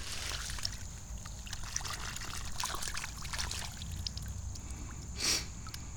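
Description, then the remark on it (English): Continuous gentle trickling and splashing water as a soft, spongy, closed-cell foam ball the size and shape of a golf ball is rinsed and swished in water, with a brief brighter splash near the end; no voices. “I'm gonna rinse it off in the water.”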